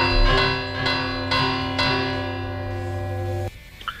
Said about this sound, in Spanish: Si te lanzamos nosotros las campanas desde aquí, ¿nos lo puedes recitar y así hacemos un poquito de jajaja? De jiji jaja, claro. Claro, sí, sin problema. Pues venga, dentro campanas.